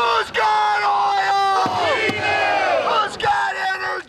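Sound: rally crowd chanting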